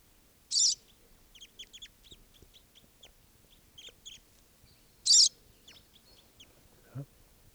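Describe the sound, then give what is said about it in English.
Crossbills calling, birds of a flock that are still free and not yet captured: a scatter of short, high chirping notes throughout, broken by two louder, harsher bursts a few seconds apart, with no talking. “According to the calls of the birds that are free.”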